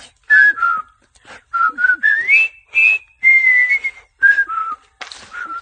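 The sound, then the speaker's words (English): Someone whistles the march tune from Bridge Over the River Kwai alone: bright, clear notes in short phrases separated by brief pauses, sliding up and down with a few longer held tones. “Hey, and don't forget Bridge Over the River Kwai. Oh, yeah. Hey, let's do that one.”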